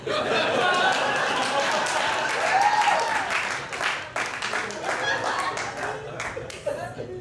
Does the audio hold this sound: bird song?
no